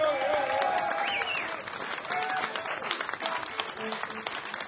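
A crowd at a live music show applauds the host steadily, dense clapping filling the whole stretch at an even, fairly loud level, with a few faint voices and whoops mixed into the clatter.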